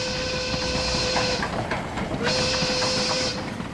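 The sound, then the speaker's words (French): A steam train dressed as a gift sleigh, its decorated wagons behind the coal tender, rolls past, rumbling and clattering over the rails with irregular metallic clacks beneath a loud, steady hiss and a faint held tone. “Derrière l'indispensable tendeur à charbon, cahotent les wagons tout aussi décorés.”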